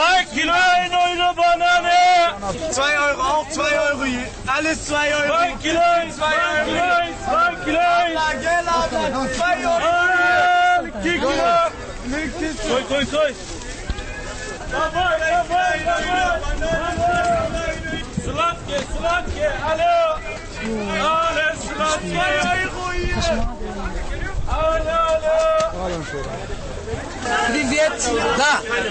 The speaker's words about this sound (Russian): Самые громкие турецкие голоса можно услышать в Берлине на турецких базарах. Вот один из них. В Кройцберге.